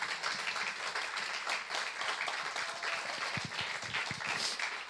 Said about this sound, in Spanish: Démele un aplauso a Jesús, amado.